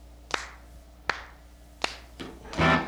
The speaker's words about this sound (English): Yeah, down, because when we overdub the claps with it, it says.